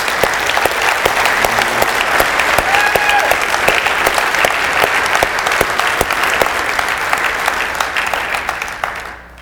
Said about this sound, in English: Let's give Him a hand, I mean a real hand clap of praise today.